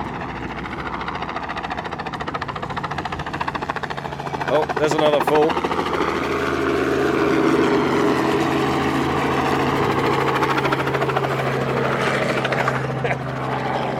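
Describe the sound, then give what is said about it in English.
A helicopter hovers low, about 30 to 40 feet above the ground, pursuing herd animals, its loud, steady rotor roar filling the whole stretch and swelling a little midway, while a man talks briefly over the noise. “I can hear the helicopter now too.”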